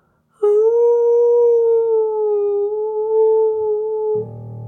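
A single long, loud wolf howl holds a steady, slightly wavering pitch for nearly four seconds, then cuts off into a brief low buzzing rumble. No one speaks.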